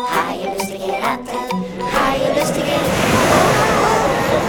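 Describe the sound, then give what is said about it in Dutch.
Loud, rushing surf of heavy waves surging and crashing over the deck of a sailing ship in a continuous wash of water, with wind beating the sails. Faint voices fade out in the first couple of seconds as the roar builds. “De golven sloegen over het dek. De wind beukte in de zeilen en deed de andere masten wankelen.”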